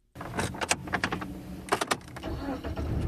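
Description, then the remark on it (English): A car starts up after a few sharp clunks and rattles, then its engine settles into a steady rumble as it pulls away and drives north of the Washington Beltway. No one speaks. “I hop in the car and drive north of the Washington Beltway in search of hot air from the real world.”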